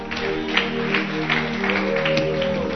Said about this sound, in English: I better clap for them now.